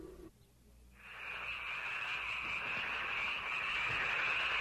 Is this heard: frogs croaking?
yes